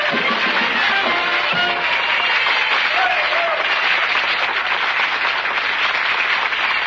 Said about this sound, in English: Now, that's interesting. Some real live people applauded. Human beings.